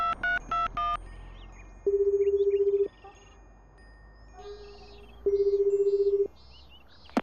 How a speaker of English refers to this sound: Shiro picked up the phone and called Makiya's beauty parlor.